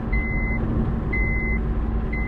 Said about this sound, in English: Because I'm in the car and the car beeping.